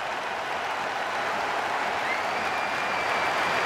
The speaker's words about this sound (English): And here comes a minute's applause for Christian Eriksen.